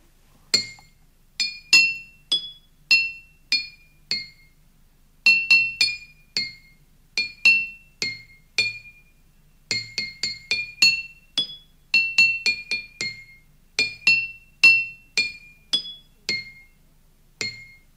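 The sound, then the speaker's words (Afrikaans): A set of four small glass bottles tapped in quick runs of bright, ringing clinks at four distinct pitches, forming short melodic phrases with brief pauses between, no voices. “Dis 'n stel glase en eintlik 'n stel botteltjies van 4, met ander woorde 4 klanke”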